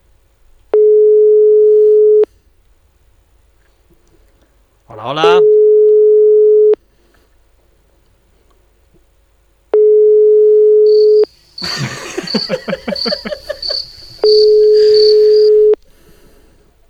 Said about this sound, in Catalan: Trucant a Sabadell. Agafeu el telèfon.